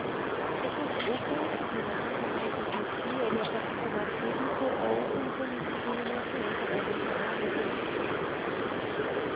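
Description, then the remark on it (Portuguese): A bus engine drones steadily from inside the vehicle, a dense, unbroken rumble and hiss lasting throughout, with faint indistinct voices blended into the noise. “É porque eu tô no ônibus aqui, depois você me liga, a gente conversa melhor.”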